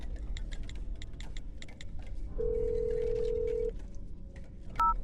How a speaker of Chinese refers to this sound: 我要马上打电话给龙哥